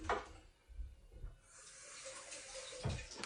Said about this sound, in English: Now, you can run the rubber end of this plunger under the tap if you want to help it go down smoothly. So I'm going to quickly do that.